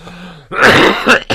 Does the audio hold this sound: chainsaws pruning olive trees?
no